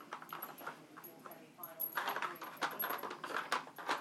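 A female dog, Pocky Dog, sniffs and noses a treat toy around trying to get the treats out, producing irregular clattering knocks and rattles with quick snuffling bursts, rising busier and louder in the second half.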